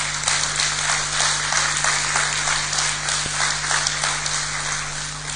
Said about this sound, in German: Und ich möchte euch sagen, es sind 819 Euro bei rumgekommen. Und ich finde, das ist ein Applaus wert.